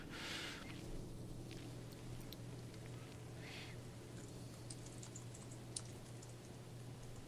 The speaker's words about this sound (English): No, I was just typing to make sure I got it right.